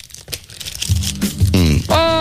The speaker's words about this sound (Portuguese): O presente veio de Vila Nova de Gaia. Para aqui. E o que é que é? E então é assim, isto é... Estão a ouvir o barulho? Deste unboxing.